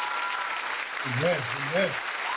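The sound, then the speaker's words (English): Steady, dense applause from a crowd clapping continuously as a hand clap of praise to the Lord for a family, with a voice calling out briefly over the clapping partway through. “Let's give the Lord a hand clap of praise for their family and for them being with us tonight as well.”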